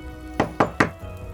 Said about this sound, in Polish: Nagle rozległo się pukanie do drzwi.